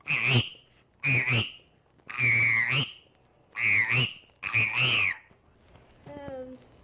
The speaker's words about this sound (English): This one's a frog.